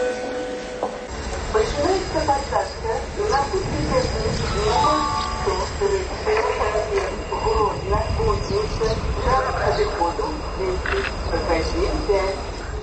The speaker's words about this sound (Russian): А тем часом обвещают посадку на тягник до кузницы. Бачу, что в вагонах сегодня будет шмат вольного места.